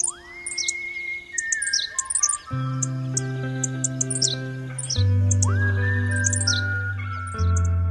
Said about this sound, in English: and now the place is jumping with henslow sparrow. So it's a case of an endangered bird restarting itself just because it had the habitat to do it.